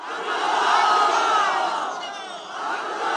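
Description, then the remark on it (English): A large crowd at a rally for presidential candidate Abdullah Abdullah, a one-time foreign minister, in a rural province a couple of hours north of Kabul, roars and chants together. A dense, sustained wall of many voices swells loudly, dips briefly, then rises again, with no single speaker standing out. “We'll hear more tomorrow from the man they were cheering for there.”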